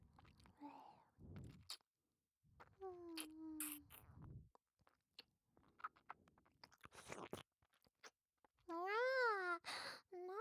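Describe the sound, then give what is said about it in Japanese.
Wet mouth noises imitate a cat licking its owner's face: bursts of smacking and lapping clicks, broken by breathy sighs and a wavering, cat-like vocal mew near the end. “大好きなご主人様のお顔をいっぱいいっぱいペロペロなめなめしていいにゃ。”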